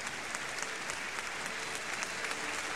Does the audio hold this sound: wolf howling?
no